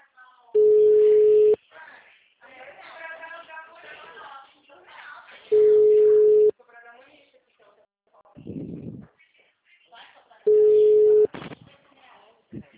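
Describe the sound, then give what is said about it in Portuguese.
A telephone ringback tone repeats three times, each steady one-second beep separated by several seconds of quiet, while people talk in the gaps between rings. “Agora tá chamando.”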